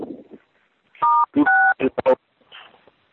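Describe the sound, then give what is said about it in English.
Two loud, shrill telephone keypad tones beep in quick succession, each a steady dual-pitched note lasting a fraction of a second, with brief bursts of voices talking before and around them. “Is somebody pressing keys? I don't know what that is, but it's ear piercing every time it comes.”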